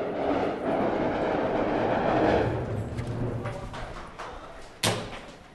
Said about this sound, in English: Okay, that's some shooting. The jet has come in low to strafe people gathered just outside the hospital.